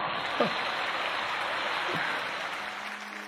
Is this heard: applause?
yes